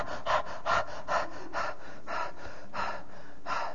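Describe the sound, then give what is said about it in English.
A voice imitates a thirsty dog panting, with about eight quick, breathy huffs in a steady rhythm, moderately quiet, with no talking around them. “He's saying that, like that, I'm panting for God.”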